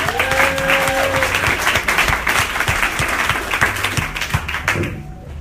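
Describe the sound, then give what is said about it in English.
An audience breaks into sustained, dense applause welcoming a comedian to the stage, many hands clapping steadily at full volume for about five seconds before it quickly dies away, with a few faint whoops mixed in. “So we're going to give him an even bigger round of applause right now.”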